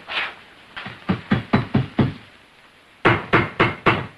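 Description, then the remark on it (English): A long metal rod knocks against a floor in sharp strikes, first on a dark rectangular patch and then on the floor beside it: a single hit, then a quick run of about six, a short pause, and four more. No one speaks. “Dragging it out, he knocks on the rectangular patch, then on the floor beside it.”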